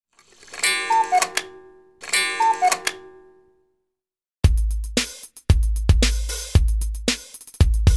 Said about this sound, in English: Tick tock. Tick tock. It's 9 o'clock. It's 9 o'clock.